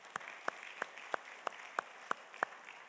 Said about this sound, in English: But I want to give a huge round of applause to the praise band because they did an amazing job. So let's give it one more time.